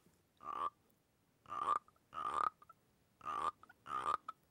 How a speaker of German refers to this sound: Ja, weil ein Frosch nach dem anderen kommt. Hier zum Beispiel kommt der erste Schnapsglasfrosch, das ist ein Wodka-Frosch.